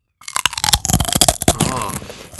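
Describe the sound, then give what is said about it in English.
A potato chip is bitten and chewed during a live taste test, giving a loud, dense run of sharp, dry crackles and snaps that continue for a couple of seconds with no talking over them. “Now, when I bite into it, you're gonna know it's a real chip.”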